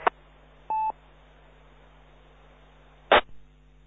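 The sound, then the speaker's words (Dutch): A short steady dial tone beep over a low line hum, bracketed by two sharp clicks as a phone line connects, with faint static throughout and no talking. “Ik denk dat ik hem aan de telefoon heb, hè?”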